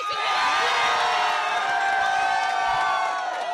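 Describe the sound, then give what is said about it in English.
A large crowd gathered in Portland, Oregon erupts in loud, sustained cheering and whooping at news that a federal judge overturned the state's ban on gay marriage: high excited shouts layered over a dense roar that holds steady for a few seconds, energetic. “Shortly after noon yesterday, the news broke to crowds gathered in Portland.”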